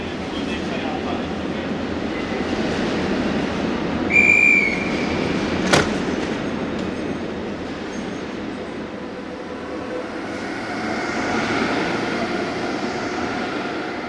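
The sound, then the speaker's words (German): The delayed regional express train to Nauen idles at a busy station platform on track 3, a steady broad rumble with a brief high whistle-like tone and a sharp clank near the middle, faint voices in the background. “Nein, das ist der Regionalexpress nach Nauen.”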